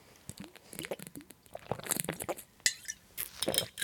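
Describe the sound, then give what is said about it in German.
Glasses clink together in a toast, a few bright chinks mixed with rustling, crunchy handling noises and small knocks, with no talking. “Ja, Prost.”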